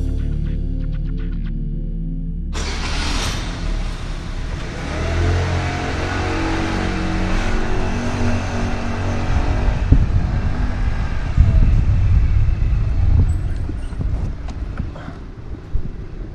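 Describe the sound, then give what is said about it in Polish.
A scooter engine idles briefly, then revs up into a loud, sustained roar that keeps droning steadily to the end with no one speaking. “Nie, nie, spokojnie, to tylko ja i mój radiowy skuter”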